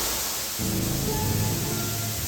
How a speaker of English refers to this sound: Put you back in the submix. I love that you can, like, pitch bend the reverb. It's almost like a weird resonator effect.